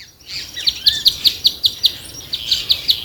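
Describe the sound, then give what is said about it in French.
A European honey buzzard, a bird of prey, calling in a quick series of short, high-pitched notes, about a dozen evenly spaced in a few seconds, clear over a steady background hiss, with no talking. “Oui, c'est un oiseau, un rapace plus précisément.”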